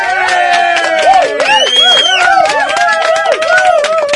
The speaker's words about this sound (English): It's an official round of applause, I think.